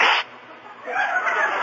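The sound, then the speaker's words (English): A sharp sneeze bursts out at the start, then a longer breathy, hissing exhale follows after a brief lull. “There we go again. Hey, speaking of sneezing”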